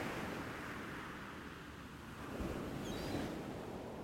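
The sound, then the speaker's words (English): Steady surf washes onto a secluded beach early in the morning, a broad hiss of breaking waves that swells slightly partway through, with faint high seabird chirps briefly above it. No voices. “The rhythmic sounds of the waves and the seabirds soothe and comfort you, and all the sights, sounds, and feelings here convey a deep sense of peace and harmony with nature.”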